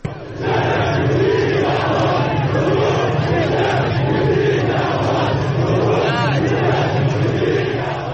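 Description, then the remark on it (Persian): A dense street protest crowd in Ahvaz shouts and chants together, heard in a video, calling "hemayat, hemayat" (support); a loud, continuous roar of many overlapping voices with rising and falling cries, sustained throughout without a break. “اولین فیلمایی که اومد بیرون از اهواز بود که شلوغ شده، در مناطق مختلف مردم رو نشون میدن”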